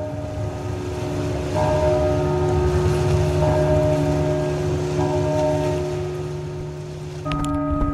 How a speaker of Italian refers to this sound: Ci racconti com'è nata l'idea di questa campana che suona con le onde?